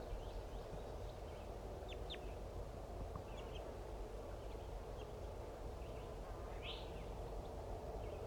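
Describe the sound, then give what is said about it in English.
A pair of birds going down, a female joined by a chittering male, give a few short, high chittering calls and chirps, scattered and fairly faint, over a steady, loud low rumble of background noise. “There's a female going down. Joined by a chittering male. Pair birds going down.”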